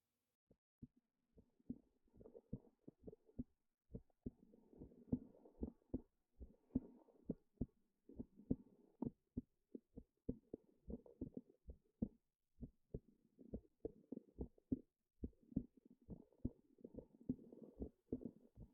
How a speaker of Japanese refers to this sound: 心臓の音を確かめて。